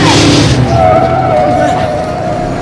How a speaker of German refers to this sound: Aber der Laster rast immer noch weiter.